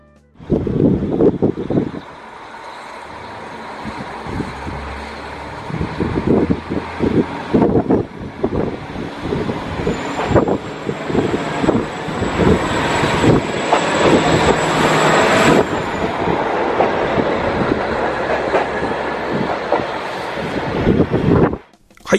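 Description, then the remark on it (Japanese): A KiHa 40 diesel railcar, a local train bound for Tomakomai, pulls away from Mukawa Station, its engine revving up with rhythmic low-frequency chugging and a rising turbo whine, without any horn, gradually building in loudness, with some wind noise; recorded from a footbridge near the station. “この向川から苫小牧に向かう普通列車を、ちょっと向川駅のですね、近くにある跨線橋から、はい、まあ、ちょっと撮影をしたんですけど、うんうんうん、ここで、まあ、音だけですけども、ちょっと久しぶりにこのキハ40の音をちょっと聞いていただきたいと思います。”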